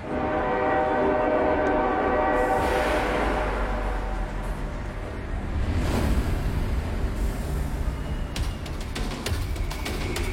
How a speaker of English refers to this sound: Brace yourself, for the Tomorrowland train is coming your way.